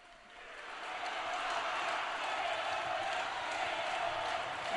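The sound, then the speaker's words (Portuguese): A large crowd bursts into sustained applause for the Pope after his Sunday greetings, swelling over the first second into a steady, dense roar of clapping and cheering that holds at an even level throughout. “Muito aplaudido o Santo Padre, que agora deverá saudar algumas das pessoas presentes, religiosas, agentes da Caritas, cadeirantes, alguns fiéis.”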